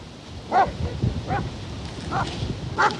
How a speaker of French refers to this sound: Voilà les chiens.